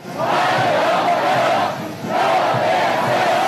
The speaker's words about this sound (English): Celebrations on the tarmac for the first US president to touch down in China in 9 years. Donald Trump stepping into a humid Beijing to the cheers of schoolchildren shouting warm welcome.